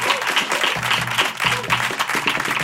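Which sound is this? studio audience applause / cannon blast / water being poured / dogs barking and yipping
studio audience applause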